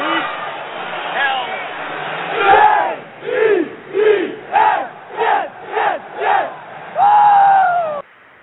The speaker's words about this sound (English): Can't you hear the crowd?